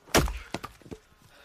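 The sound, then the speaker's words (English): An axe splitting wood bites hard into a log on a chopping block with a loud, sharp crack, followed by a few lighter knocks and splintering clatters of wood settling, with no voices. “Eddie splits wood.”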